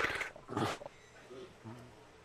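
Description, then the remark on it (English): A big white tiger, around 500 pounds with a body length of about 6 feet, lying down, chuffs: two quick, breathy snorting puffs, followed by low, faint murmuring that sounds like a person talking quietly. “He's got a wonderful chuff, but even laying here, he is just his body length is about 6 feet or so.”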